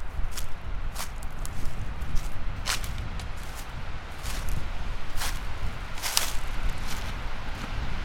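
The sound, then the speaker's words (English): Footsteps walk at a steady, unhurried pace along a ditch toward a driveway, each step a soft brushing crunch, over a constant low rumble of wind. “Moving out towards the ditch, and I'll walk down along the ditch into my driveway.”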